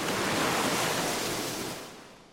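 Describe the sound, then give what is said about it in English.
Ocean waves wash up a beach in a broad, steady hiss, fairly loud, easing off and receding toward the end. No voices. “Then watch the waves smooth it away?”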